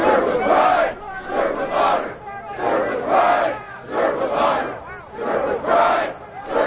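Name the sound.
police officers chanting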